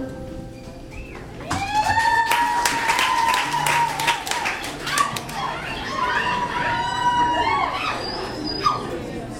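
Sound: audience clapping and screaming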